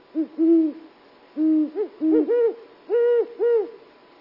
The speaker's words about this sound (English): They're huge owls with pointy, ear-like tufts, and they roost during the day in trees and hunt at night over open areas nearby. Look for something shaped like an enormous house cat sitting upright on a branch. At night, listen for these mellow hoots.